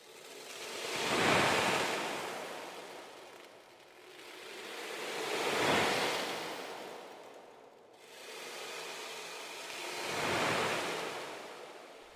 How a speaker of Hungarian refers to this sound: Tenger.